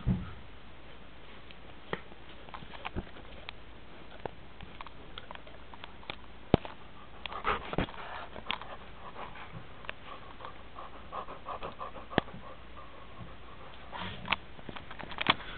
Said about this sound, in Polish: Pies oddycha w zupełnie inny sposób, innym rytmem. Oddech jest istotny.